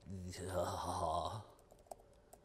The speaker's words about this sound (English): Building requirement. Let's see. As you can now see how bad I get at typing.